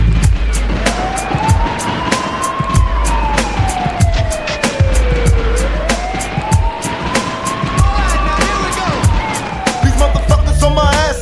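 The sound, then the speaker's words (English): A police siren wails in slow rising and falling sweeps, two full cycles, loud over a heavy pounding beat with sharp percussive hits throughout. “Is it a bust? I hear the sirens,”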